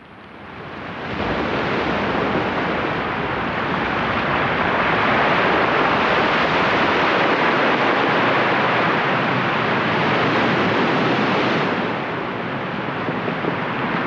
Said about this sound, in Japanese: さあでは波の音で今日は綴っておりますが、続いて南三陸町の波の音を聞いてください。